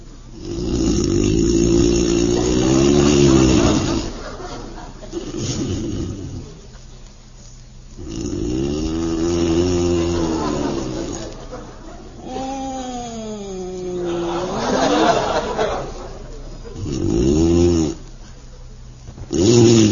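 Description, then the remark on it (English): A man snores loudly and theatrically in bed in the dark, each long rumbling, groaning breath rising and falling with wavering, whistly tones, repeating every few seconds with no talking; it is John of The Bickersons, with his wife lying awake beside him. “Bickerson lies tense and silent in the darkness, while poor husband John, insomniac extraordinary, engages in another grueling bout with the dread affliction that borders on madness, lethargica profundus.”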